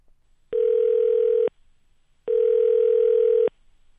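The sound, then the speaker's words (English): Two steady electronic telephone tones, each lasting about a second with a pause between, ring out clearly over a quiet line as a call to the Bobst Library of New York University connects. Nobody speaks. “while we can't go to the library now to ask how it's pronounced, let's do the next best thing. Call them up.”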